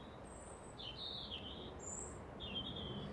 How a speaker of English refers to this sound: But it's lovely to be out here this morning, even if it's a bit wild, but it's mild. And the bird song.